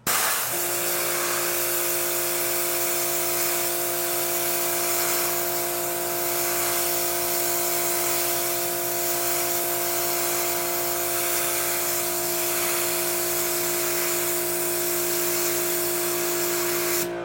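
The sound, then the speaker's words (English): A pressure washer sprays water in a steady, loud hiss, rinsing gunk off a surface, with a constant motor hum and whine underneath that holds unchanged for the whole stretch, no voices present. “You're letting the pressure of the water do it.”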